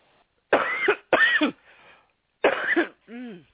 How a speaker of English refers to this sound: Need some water, excuse me. Now, whew. Sorry, I got cotton mouth and was starting to cough.